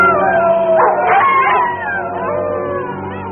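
Several drawn-out, wavering wolf howls overlap in a loud, continuous chorus, their pitches sliding up and down and easing off slightly toward the end.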